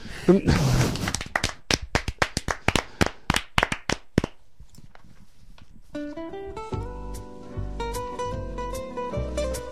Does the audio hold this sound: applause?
yes